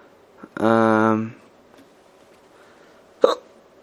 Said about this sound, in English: Oh, man. Terrible hiccups.